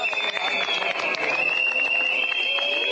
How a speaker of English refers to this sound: People whistling, people booing, warmonger shouting him down.